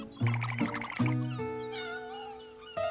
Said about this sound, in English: The silly old cat got itself stuck in our tree again.